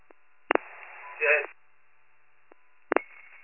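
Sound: telephone dialing tones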